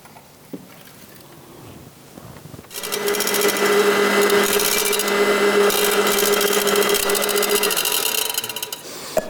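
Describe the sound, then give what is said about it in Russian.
After a quiet moment, a blender kicks on and whirs loudly and steadily for about six seconds while whipping homemade mayonnaise of vegetable oil, salt and sugar-free mustard, its motor hum staying even until it cuts off. “И все это взбить блендером.”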